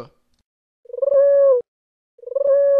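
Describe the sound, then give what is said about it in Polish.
Two clear pigeon coos, each beginning with a quick fluttering stutter that swells into a sustained, throaty note, separated by a short silence, as pigeons are being fed. No voices are heard. “Chodźcie tu, gołąbki!”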